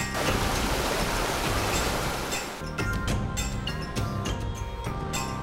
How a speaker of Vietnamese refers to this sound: Ven theo con đường núi thơ mộng, đến với bản Thái ở Tú Lệ, để hòa mình vào dòng suối sinh dưỡng mang nguồn năng lượng từ núi rừng.